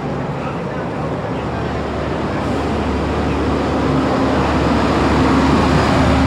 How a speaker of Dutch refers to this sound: De hardste vrachtwagen van Groningen komt eraan.